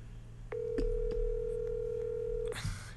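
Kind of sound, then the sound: signal or alarm, outgoing phone call ringing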